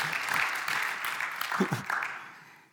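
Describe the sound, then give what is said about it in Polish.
A church audience applauds a fellow member in a short burst of dense, steady clapping that holds for about two seconds, then thins out and fades, with a faint murmur of voices underneath. “No, brawa dla tego brata.”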